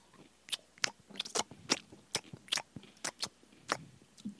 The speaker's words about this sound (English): He said, just crunch more into the mic. The upper management with what? He said, closer. Closer. To the mic.